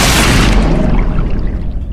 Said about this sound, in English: You smash into a wall.